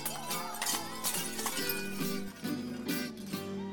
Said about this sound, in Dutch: En ter verhoging van de feestvreugde maken de leden van de club een Grieks dansje. En worden er borden kapot gegooid. Want scherven brengen immers geluk.